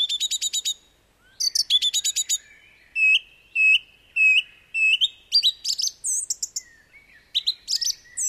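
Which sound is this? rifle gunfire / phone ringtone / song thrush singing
song thrush singing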